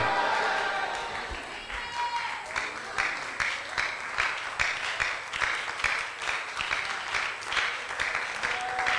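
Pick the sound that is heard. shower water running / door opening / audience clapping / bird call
audience clapping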